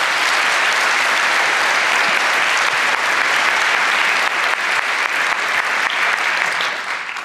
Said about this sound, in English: A round of applause?